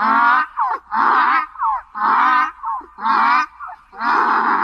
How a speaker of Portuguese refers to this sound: O jegue estava no portão que me pegar. Quando me viu, foi murchando as orelhas, mostrando os dentes e começou a relinchar.